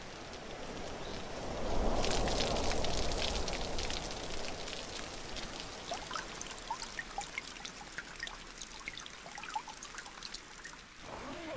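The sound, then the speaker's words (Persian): Steady rain falls with a dense patter of drops, swelling into a heavier wash for a few seconds before settling back to a lighter, continuous drizzle of scattered drips, on the first day of the rainy season in the Kanto region. “پس شاید بازم همدیگر رو دیدیم، شاید یه روز بارونی دیگه.”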